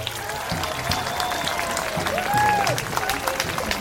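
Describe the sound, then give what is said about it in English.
A crowd claps and cheers steadily, celebrating running water arriving through a newly installed 16-mile pipeline, with excited voices and a few high whoops rising over the dense, continuous applause. “And when it was done, the sound of running water brought cheers and celebration.”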